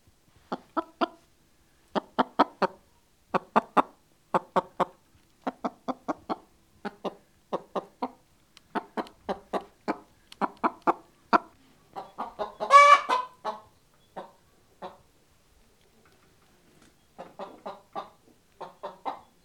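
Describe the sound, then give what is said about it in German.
A chicken clucks steadily in short, rapid bursts of clipped notes, clear, with one louder squawk partway through and brief pauses between the runs. “Thousand years BC. Chicken. Tavuk. Huhn.”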